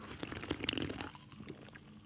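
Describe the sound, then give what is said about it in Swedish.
Crisp crunching of a potato chip being chewed, a dense burst of sharp crackles for about a second that then thins into softer, sporadic chewing. “Jag kör en IPA nu och en sån här chip.”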